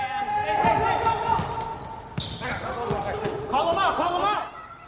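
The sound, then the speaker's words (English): A basketball bounces repeatedly on a court in a quick, uneven rhythm of sharp thuds, mixed with high sneaker squeaks and a murmur of voices in the background. “Dan stands on the sideline of the basketball court and glances at his watch.”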